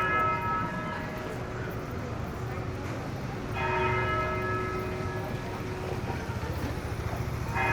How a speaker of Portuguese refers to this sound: O sino.